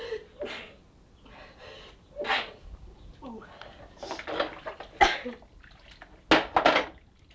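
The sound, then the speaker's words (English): A loud sneeze among several sharp, breathy bursts and snorts, spaced unevenly, with faint muffled voices in the background. “I sneeze.”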